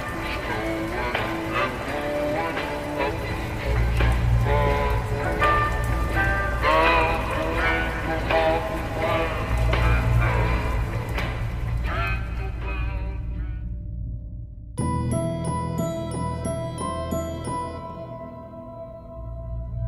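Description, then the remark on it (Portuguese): Santa Claus's sleigh bells jingle on Christmas night over a steady clip-clop and warm music, then give way to bright, ringing chimes that slowly thin out and fade toward the end as he vanishes into the darkness. “Sangue esguichou na noite de Natal, e o Papai Noel sumiu na escuridão, deixando o doce tilintar dos sinos indo atrás de mais pessoas desobedientes.”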